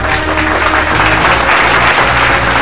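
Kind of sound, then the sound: crowd, audience applause welcoming guest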